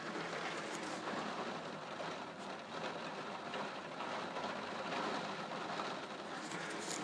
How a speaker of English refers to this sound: So that's the rain hissing, and we've got these windows in the roof of our house. Our upstairs rooms have actually got these, they're windows that are actually in the roof, so you can hear the rain smacking against the window